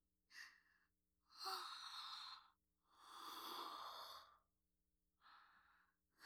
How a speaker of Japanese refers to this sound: あくび映っちゃった。もう眠い？眠いよね。